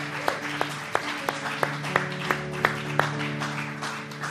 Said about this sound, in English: If you're going to help me preach, would you give God a hand clap of praise as you're seated today?